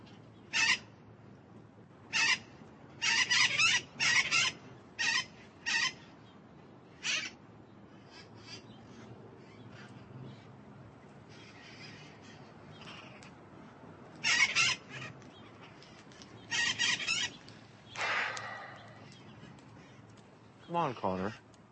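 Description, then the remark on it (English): Blue-crowned conures let out loud, harsh squawks in quick bursts, a rapid cluster early on, then a quieter lull before several more piercing shrieks near the end. “All these birds have known him since they were babies, but he's still a blue crown.”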